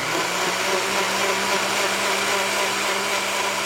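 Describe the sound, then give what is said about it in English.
A blender runs steadily at high speed, mixing vegetable oil with methanol and lye to make fuel, its loud motor whir and churning liquid holding constant for the full length with no voices. “It's actually a very empowering experience to make your own fuel, even if you just make a liter of fuel in a blender.”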